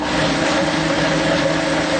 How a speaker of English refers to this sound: Now let's blend it up.